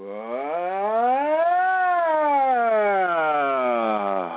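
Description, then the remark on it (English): A single voice performs a vocal siren as a toning exercise, gliding smoothly up to a high pitch and then slowly sliding back down in one long continuous tone, steady in loudness. “And oftentimes on the other side of just running a siren, you can twist and turn your body to help move any of the energies that seem to be stuck or wanting to go by the next siren.”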